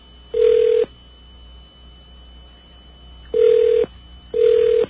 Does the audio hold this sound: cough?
no